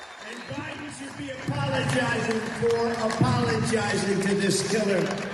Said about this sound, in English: And the people cheer this on.